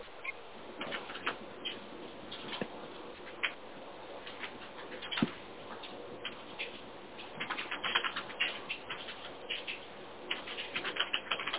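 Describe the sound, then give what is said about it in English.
Rapid, uneven keyboard typing with clusters of sharp clicks and brief pauses, moderately quiet, with no talking over it. “I heard typing.”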